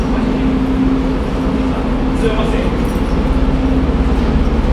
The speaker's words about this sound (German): Stehen hier diverse Züge.